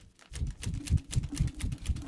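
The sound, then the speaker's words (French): A hand fan flicks open and is waved briskly for cooling, giving a quick, steady series of soft flapping, clattering whooshes, roughly four per second, with no voices. “ce que vous venez d'entendre, en fait, ça s'appelle un climatiseur de Radio Saint-Afrique. Ça s'appelle un éventail”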